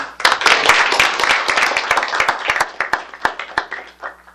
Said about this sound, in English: He said he was sorry, but I'd love to give him a round of applause.